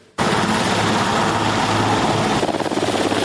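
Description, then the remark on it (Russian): Loud, steady helicopter rotor noise starts abruptly and continues throughout, with a rhythmic low-frequency thumping of blades, as helicopters carrying world leaders arrive over Bürgenstock, Switzerland, on 15 and 16 June for the peace summit on Ukraine. The chopping pulse grows slightly more pronounced near the end. “Небо над швейцарским Бюргенштоком 15 и 16 июня было в буквальном смысле заслано прилетающими вертолетами мировых лидеров.”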